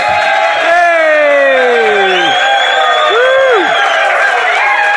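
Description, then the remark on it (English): A loud live audience at a Newstalk Off the Ball show cheers for about five seconds, with long drawn-out whoops that slide up and down in pitch over a steady roar of voices. “Hello, you beautiful crowd. They're all very excited because on the way in, they got a raffle ticket.”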